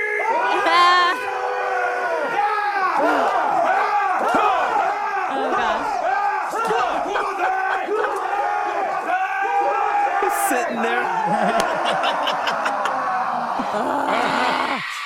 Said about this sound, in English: Yeah, take us out with the whistles again. Take us out with some voodoo chant. And these are the voodoo priests from Dark Hour Haunted House.